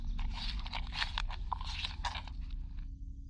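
Quiet munching of a Snickers candy bar heard over a Bluetooth call: a steady run of soft, crunchy chewing sounds for about three seconds over a low background rumble, with no talking.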